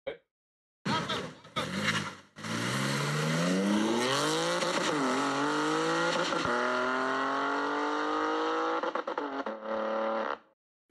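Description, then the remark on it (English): A BMW sports car engine with a mid pipe blips, then revs hard with rising harmonics and holds against the rev limiter, bouncing off it repeatedly for several seconds before dropping away. Loud and continuous. “don't let the rev limit banging off the limiter skew you as to the sort of car that was.”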